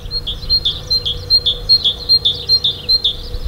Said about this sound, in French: Le titu, titu, titu de la mésange charbonnière.